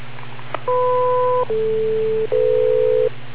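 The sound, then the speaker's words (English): An IRLP-linked radio repeater tone sounds after a transmission drops: three steady electronic beeps in a row, the first a two-pitch chord, then two lower single notes, over a constant low hum. “Okay, and the reason why I made this ridiculous tone is to try and force you guys into waiting the 2 damn seconds, because you don't.”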